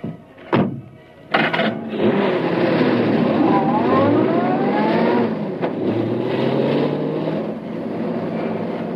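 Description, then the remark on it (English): A convertible car's engine cranks with a couple of sharp bursts, catches, then revs up and rises in pitch as the car pulls away, the steady motor noise easing off slightly toward the end. “He waited until the last of the police cars had left. Then he stepped into his convertible.”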